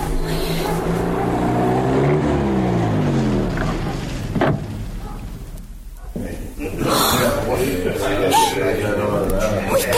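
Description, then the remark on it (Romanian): Car engines rumble, their pitch sliding down as the vehicles slow and stop right in front of a prison, then the noise drops away briefly before idling engines and traffic sound pick up again. “Uite, mașinile s-au oprit chiar în fața închisorii.”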